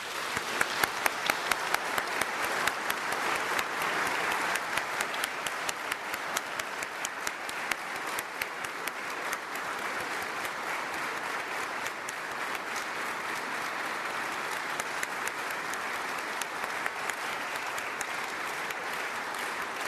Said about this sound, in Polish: Po ilości i sile oklasków można zobaczyć, jak tutaj jest nam dobrze.